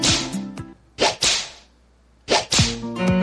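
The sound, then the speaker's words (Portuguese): Loud, sharp whip cracks snap in quick pairs, each with a brief whooshing tail, separated by short pauses, while a low sustained tone hums underneath. “Prepara o lombo que lá vem chicote.”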